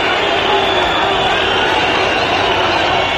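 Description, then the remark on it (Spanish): A large crowd boos continuously at the 12 October parade on the Castellana, booing and insulting Spanish Prime Minister Pedro Sánchez on his arrival and departure: a dense, loud wash of many voices jeering at once with no pauses, holding steady at the same intensity throughout. “Abucheos a la entrada y abucheos a la salida.”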